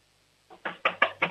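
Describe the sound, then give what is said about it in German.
Four or five firm, heavy knocks on a wooden door in quick, even succession, made by an 8-year-old boy knocking as hard as he can, ringing out clearly on their own with no voices. “Okay, dann lauf jetzt mal zur Tür und klopf mal volle Kanne an.”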